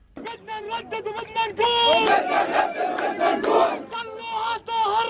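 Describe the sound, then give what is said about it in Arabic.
A large crowd of Jerusalem residents chants slogans in unison in support of the Prophet Muhammad at Al-Aqsa Mosque, voices rising in loud, rhythmic bursts that echo across an open outdoor space, the mass of shouting sustained and energetic throughout. “بحماس تحتضنه وجوه أهالي القدس أطلقت الحناجر هتافات نصرة للرسول قبل أن يردد المسجد الأقصى صدى اسمه الشريف في الأرجاء.”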